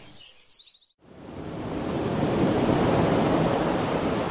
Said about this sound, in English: Well, the waves break hard on Saba's northwest coast. This is called the Wandering Beach because a swell moves the sand around.